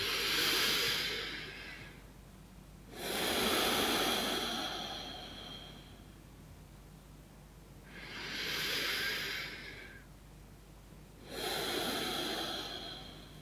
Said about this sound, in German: So, du nimmst ein paar schöne, wunderbare Atemzüge.